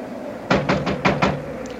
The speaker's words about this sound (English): All right, come along. I'll knock.